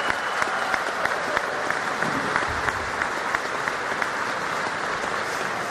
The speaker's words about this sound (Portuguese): Mas aqui não. Aqui o aplauso é verdadeiro, porque é um aplauso que vem do coração daqueles que estão participando dessa solenidade.